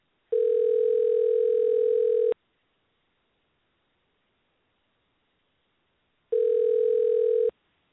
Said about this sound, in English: Hold on. We're going to make a phone call right quick. She ain't on here, so we gonna call her because she ain't on here.